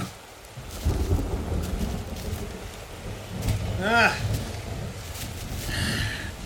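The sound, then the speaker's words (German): A thunderstorm rumbles steadily, deep rolling thunder swelling and fading over a constant wash of rain, with a couple of brief tonal sounds rising above the din. “Ein Gewitter.”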